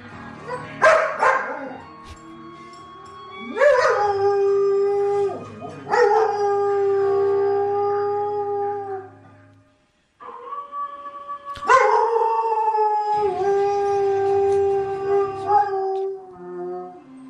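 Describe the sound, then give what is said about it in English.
A German Shepherd, with its paws on the TV cabinet and its nose against the screen, howls along to a TV show's closing-credits music: several long, wavering howls that rise and slide in pitch, loud, with a break between phrases and faint television music underneath. “here is a German Shepherd singing along with the Law & Order closing credits”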